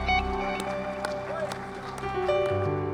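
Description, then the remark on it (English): A seated church audience claps in praise of God in a steady rhythm, roughly two claps per second, over sustained organ-like music chords and a murmur of voices. “One more time, why don't you give him a hand clap of praise as you're seated in the presence of God.”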